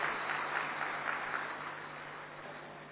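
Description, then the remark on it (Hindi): An audience claps in a dense, continuous wash of applause, many hands at once, holding steady before easing off slightly toward the end, welcoming an honored guest speaker. No one speaks over it. “हम स्वागत करते हैं, जोरदार तालियों से स्वागत करते हैं।”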